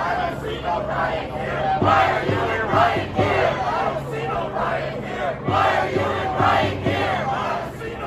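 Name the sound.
protest crowd chanting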